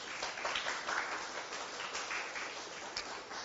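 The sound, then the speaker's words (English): An audience applauds guest speaker Pastor Gunnar Raman, a dense, even patter of many hands clapping steadily throughout at moderate volume, with no voices over it. “Would you give him a round of applause?”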